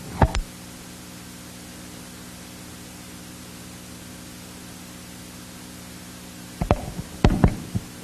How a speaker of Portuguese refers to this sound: A emoção está grande, o telefone caindo. Vejam só.